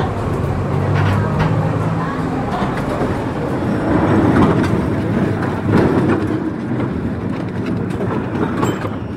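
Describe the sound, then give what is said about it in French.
A metro train rumbles loudly and steadily at the San Cristóvão metro station, its wheels clattering over the rails throughout, with faint indistinct voices mixed into the din. “Quand on va au Maracana, on passe par la station de métro, en général de San Cristóvão, qui est la station de métro qu'on utilise pour accéder au Musée national.”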